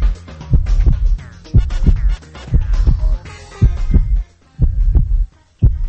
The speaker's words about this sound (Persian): اولیش تپش قلبه، یه صدای قلب یک انسان غیر عاشق رو شما گوش کنین ببینین.